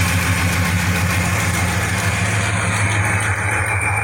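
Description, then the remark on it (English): A rough-running V8 engine idles with a steady, loud, low rumble and a slightly rough, uneven throb that runs continuously without any voices. “This is what it sounds like running.”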